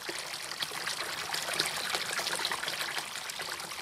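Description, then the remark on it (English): A steady, continuous trickle of water splashing into a stone water basin on the edge of the village of Nodorinho, fairly soft, with no pauses and no voices over it. “A water basin on the edge of the village Nodorinho.”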